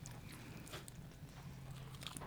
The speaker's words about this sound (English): Yes, as you can hear him chewing away. There's lardo on it, too.